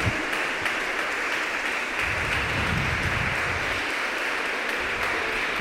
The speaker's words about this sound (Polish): Ogromne brawa dla laureatów.